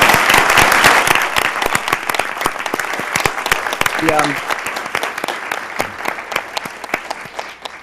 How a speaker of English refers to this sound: So I say a round of applause for Mayor Sam Adams for the work that he did.